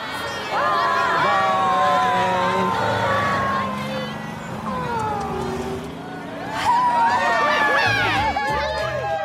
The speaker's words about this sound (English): But the cheer that all the parents let out once the kids' bus drove away.